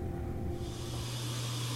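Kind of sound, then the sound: household object, refrigerator running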